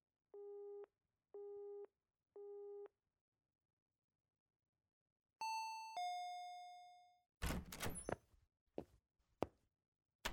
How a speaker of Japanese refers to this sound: ま、入る前に一応チャイム鳴らしてもらっていい？